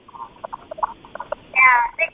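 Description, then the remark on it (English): Birds calling at Badrikashram: a run of short, quick chirps, followed by a louder, drawn-out warbling call and a final brief chirp, with no one speaking. “Because I can hear some birds in between, you know.”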